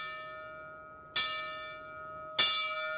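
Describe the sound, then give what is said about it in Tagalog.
A church bell rings twice, about a second apart, each strike bright and metallic with a long shimmering decay that overlaps the next. No voices, just the resonant bell. “Nasa kampana si Sir Alici.”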